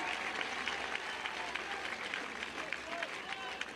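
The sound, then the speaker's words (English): Steady crowd applause at a baseball game for Jonah Seegers, number 37, coming up to bat as a pinch hitter: a dense, continuous wash of clapping with scattered cheers, holding at an even level for several seconds. “And the crowd applauds Jonah Seegers.”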